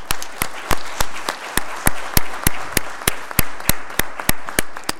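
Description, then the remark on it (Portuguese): An audience applauds steadily for several seconds, welcoming young DeMolay members of the Masonic Order who have stood to present themselves; a dense wash of clapping punctuated by sharp, evenly spaced claps that keep a quick, regular beat. No one speaks. “E uma salva de palmas para eles, por favor.”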